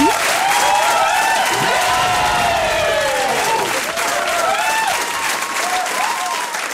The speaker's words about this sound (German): dafür ja, hast du einen Applaus extra verdient.